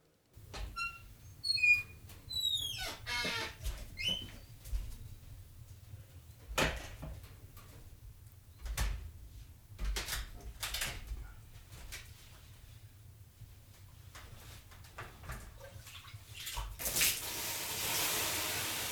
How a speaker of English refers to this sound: And we were also very surprised when a woman asked us to play the inside sounds of a sauna for her husband.